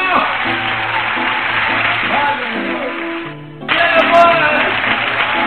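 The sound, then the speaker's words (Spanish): An audience applauds in a dense, steady wash of clapping over sustained organ-like chords; the clapping dips briefly near the end, then swells back louder. “¡Le un aplauso!”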